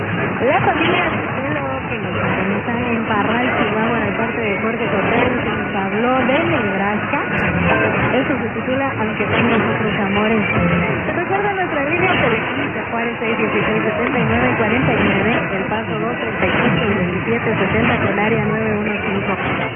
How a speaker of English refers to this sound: Finally, 800, the Mexican Clear Channel. It really isn't. There are 11 stations on that former Clear, and we'll be hearing several of them all at once.